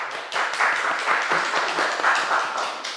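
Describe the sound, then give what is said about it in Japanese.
A crowd claps steadily for a few seconds for fathers on Father's Day, June 17: a dense, even patter of many hands without pauses and no voices over it. “ぜひ拍手しましょう。”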